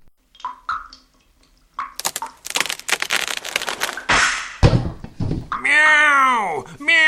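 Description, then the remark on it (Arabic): In a cartoon story, a burst of loud splintering cracks for a couple of seconds as ceiling wood gnawed by two mice breaks, then a heavy sack of wheat lands with a dull thud, followed by a long, drawn-out meow from a big cat that falls with it. “بدأ الفأران بقضم خشب السقف أكثر، وفجأة انكسر الخشب وسقط كيس القمح، ومعه سقط القط الكبير على الفأرين.”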